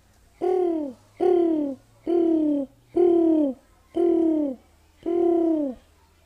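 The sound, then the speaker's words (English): Pigeons coo in six steady, evenly spaced calls, each a rounded, slightly falling tone. They sound fairly loud, with nothing else but a faint low hum underneath. “Oftentimes, pigeons would find their way up into the barnyard area.”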